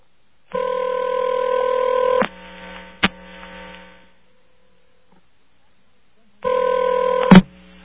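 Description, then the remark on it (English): A collect call to an answering machine rings through: two long, steady ringback tones about four seconds apart, with a sharp click on the line in the quiet gap between them. “This is going to call an answering machine of mine, and it's going to ask if it's going to accept the collect call.”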